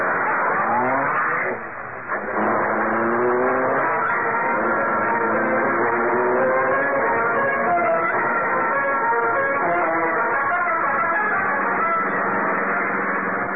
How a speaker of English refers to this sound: Britt Reed pressed a button. The great car roared into life. The section of the wall in front raised automatically, then closed as the gleaming Black Beauty sped into the darkness.